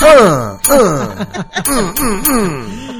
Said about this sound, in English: All right, with the bell. I love the bell.